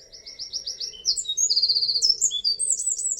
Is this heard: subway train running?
no